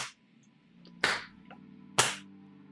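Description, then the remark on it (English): A gnoll's paws slap against a floor as it comes up from behind, in a slow, lazy rhythm: three sharp, fairly loud smacks about a second apart, with fainter softer taps between them over a low steady hum. “as his paws lazily kind of slap against the floor.”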